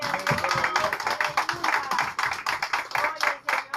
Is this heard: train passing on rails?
no